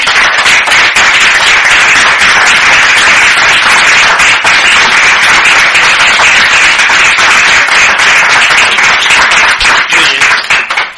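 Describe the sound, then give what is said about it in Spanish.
Sustained audience applause at the close of a talk, a dense crowd of hands clapping loudly and continuously for about ten seconds before tapering off at the end, with no talking over it. “Un aplauso.”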